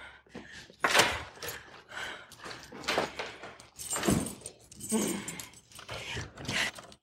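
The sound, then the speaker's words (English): Keys jingle and clink in short, bright bursts amid rummaging and a drawer or door clatter, with tense breathing between the metallic rattles, as keys are sought to open a cash drawer during a robbery. “I need the keys. Keys!”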